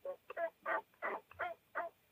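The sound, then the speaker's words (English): A wild turkey hen yelps softly, a short run of about six evenly spaced, raspy notes, quiet, with no talking. “3 to 5 yelps, that's it. And that's what the hens are doing.”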